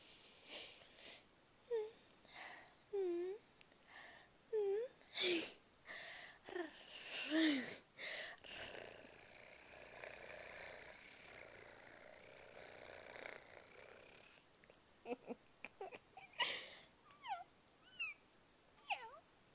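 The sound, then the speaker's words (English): A person imitates a kitten: short squeaky mews, then a long, steady, rattling purr held for several seconds, followed by a few more little chirping squeaks. “Kitten's purr.”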